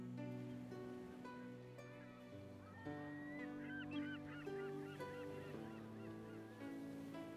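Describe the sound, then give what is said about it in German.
A flock of seagulls circling in the sky call in overlapping, wavering cries, strongest in the middle stretch, over a steady, sustained droning tone that runs throughout with a soft wash of sea waves. “Während du die Wellen beobachtest, schweift dein Blick langsam nach oben an den Himmel und du siehst einen Schwarm Möwen seine Kreise am Himmel drehen.”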